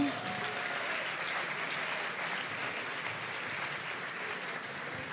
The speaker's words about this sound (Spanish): Claro, es que vais a estar 5 minutos aplaudiendo si tienen que bajar desde allá arriba, coño. Otro aplauso. Venga.